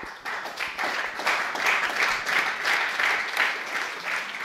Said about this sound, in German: Mit dieser Zahl endet das Stück. Das Publikum verharrt in gebannter Stille. Dann beginnt es beklommen zu applaudieren.